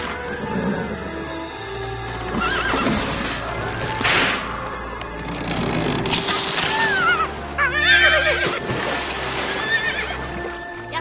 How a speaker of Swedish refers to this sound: Precis vad vi behövde. En häst!